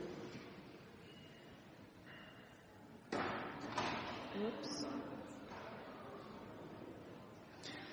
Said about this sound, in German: Ja, und jetzt machen wir die Tür wieder auf und schauen, was nun hinter der Tür ist.